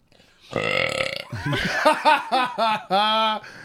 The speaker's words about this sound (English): Burping and it's getting all the room out, so we're good. We're good.